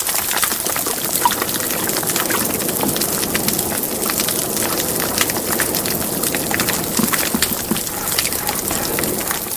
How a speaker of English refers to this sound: and the top is represented, heard actually by static, is represented by 11 different species of fish around this coral reef in Fiji. And here's what it sounds like.